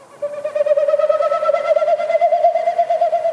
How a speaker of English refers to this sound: What male Wilson snipe do this time of the year in the spring, they do this flight, these winnowing flights is what they're called. So each time they flap their wings, it pushes air through the stiff outer tail feathers, and it makes that woo, woo,